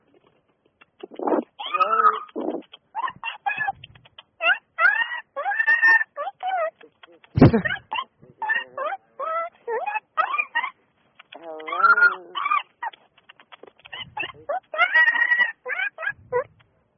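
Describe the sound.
On the Don and Lynn Show radio program, a person imitates dolphin chatter ("Dauphinese") with bursts of squeaky, warbling, high-pitched vocal sounds. The bursts come in quick irregular runs for several seconds, fairly loud, with one brief spoken word.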